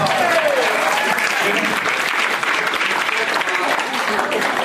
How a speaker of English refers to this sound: At least clap or something, right?